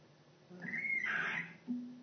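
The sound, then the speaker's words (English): A bird on a roof lets out a single drawn-out, scratchy squawk lasting about a second, loud, followed by a brief low note. No one speaks. “Stop squawking, Dana. It's not me. It's a bird on this roof.”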